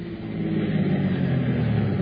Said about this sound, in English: Now, here comes the car.